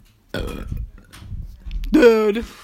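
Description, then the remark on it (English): Two loud burps from a little sister: a rough, gravelly one at the start, then after a short pause a longer, strained belch with a rising, tonal quality that fades out. “She shut up, I want to hear you burping.”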